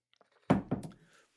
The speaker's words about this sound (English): I'll give you a minute to think about it while I take a quick sip of water.